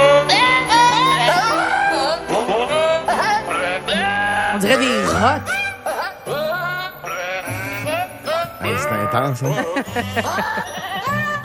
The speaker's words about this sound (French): Il y a une chorale de chèvres qui peut vous faire « We wish you a Merry Christmas ». On écoute.